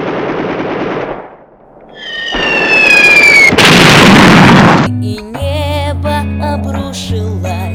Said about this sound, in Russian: Полыхнули взрывы.